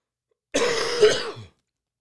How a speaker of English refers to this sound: And why that's important is, excuse me, is, I gotta cough again.